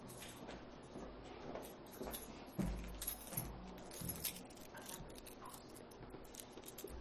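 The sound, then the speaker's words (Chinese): Metal keys on a key ring jangle and clink, a continuous run of bright, irregular rattles with a few louder shakes in the middle, and no one speaking. “这个钥匙圈大家看到这个颜色，我不知道有多少人认识这个，曾经见过它。”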